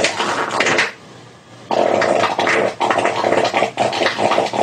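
A loud fart with a brief lull, then a long sputtering stretch that rises and falls in pitch as the farter moves around, with rough, raspy bursts and no talking.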